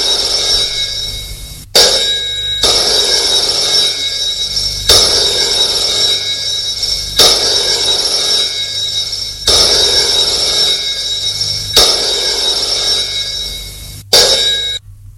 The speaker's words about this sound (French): Le téléphone sonne.